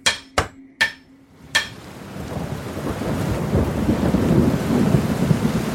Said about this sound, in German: Als nun ein Platzregen fiel und die Wasser kamen und der Platzregen fiel herab und die Ströme kamen und die Winde wehten und die Winde wehten und stießen an das Haus